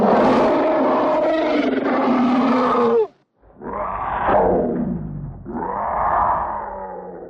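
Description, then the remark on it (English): A voice imitates a big cat's roar in three loud, rough, growling bursts: a long first roar, a brief pause, then two shorter snarling roars back to back, with no speech. “That may have been Peter Cullen doing a cat.”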